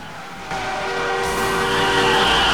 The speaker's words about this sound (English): The train slows, and Riggs jumps off and runs after the truck, which skids out into the traffic.